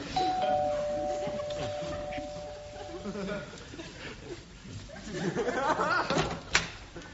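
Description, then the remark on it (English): A two-tone doorbell chime rings out in a BBC comedy sketch, its notes sustained for about three seconds before fading, with muffled voices and some laughter murmuring underneath and continuing afterward. “We were wondering if you'd come and answer the door in a sketch over there in that sort of direction.”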